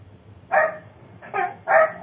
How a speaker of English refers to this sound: My dogs are going off. Sorry about that.